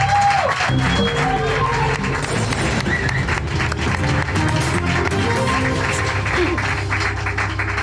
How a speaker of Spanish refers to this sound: Un aplauso, que se oiga en el más allá, por favor.